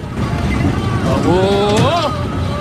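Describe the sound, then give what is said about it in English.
A red pickup truck's engine rumbles steadily as it slows down in traffic at a checkpoint in Haditha, a continuous low drone with a voice briefly sounding over it. “Their truck slows down at traffic at the checkpoint.”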